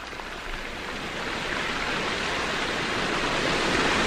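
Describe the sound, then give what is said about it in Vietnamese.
A continuous, dense roar of wind and sea surf, like waves breaking against rocks, building gradually louder over a few seconds with no distinct pauses and no voices. “Nhưng chỉ có tiếng gió gào trên mặt nước và tiếng sóng biển va vào đá ầm ầm.”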